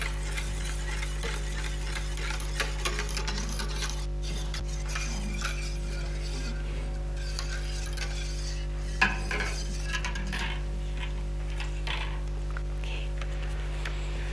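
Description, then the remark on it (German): Steady scraping and clinking of a utensil stirring lye powder into a liquid in a container, a continuous gritty swirl with small metallic taps, over a constant low hum and no talking. “das Pulver in die Flüssigkeit rührt und niemals das Wasser oder die Flüssigkeit in das Laugenpulver.”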